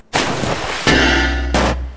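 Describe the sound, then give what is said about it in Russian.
A bucket crashes down into a well after its rope snaps: a loud rushing clatter, then a heavy metallic bang that rings with a steady tone over a low rumble, and a second sharp burst. “В этот момент веревка не выдержала и оборвалась. Ведро с грохотом полетело вниз.”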